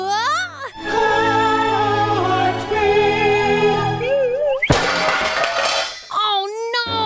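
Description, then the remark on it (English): A drawn-out vocal wail leads into a loud clattering crash into a science fair diorama of the solar system made of pots and pans, ringing for about a second, followed by a brief wavering voice. “I just crashed into my science fair project, a diorama of the solar system, made entirely of pots and pans.”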